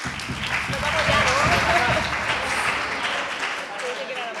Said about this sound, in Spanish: ¡Un aplauso!